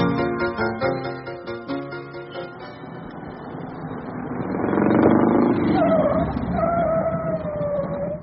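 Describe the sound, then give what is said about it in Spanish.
An old jalopy car belching smoke from its muffler chugs in a steady rhythmic putter, then swells into a louder, rougher roar with a high wavering whine laid over it. “¿Su carro funciona con leña? Arroja humo como si viniera incendiado.”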